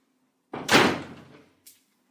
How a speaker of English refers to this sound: Just let me close this door.